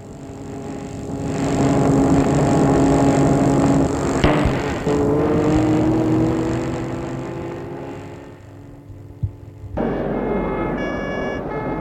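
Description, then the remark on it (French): Several vehicles, police cars and ambulances, drive past with steady, rumbling engines that swell and fade, joined near the end by a higher, tonal whine. No one speaks. “Les cars de police, ambulances, etc.”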